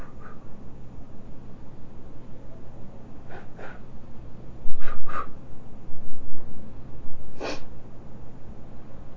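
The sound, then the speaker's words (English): A few short, forceful nose blows by a child, breathy nasal bursts spaced a second or two apart, over a low steady background rumble with no talking. “Well, I can blow too.”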